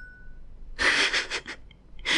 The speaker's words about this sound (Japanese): ティーンって今鳴ったのは僕の Google Pixel タブレットの通知音だから、まあ、そのまんま活かしでね。